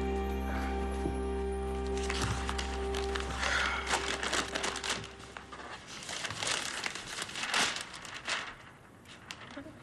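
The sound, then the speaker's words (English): Newspaper pages rustle and crinkle in a steady run of dry, papery crackles as they are handled and turned, over a low constant hum. “See the paper?”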